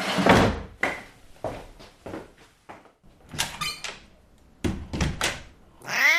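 A cat meows a few times, short, in an apartment, mixed in with thumps and bumps like doors or cupboards being opened and shut. No one speaks.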